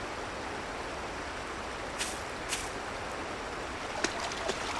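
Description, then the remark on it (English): Steady rush of running stream water as a bottle is filled from the stream, broken by a few brief splashy knocks near the middle and end, with no voices. “I was doing this, filling up my bottle from a stream.”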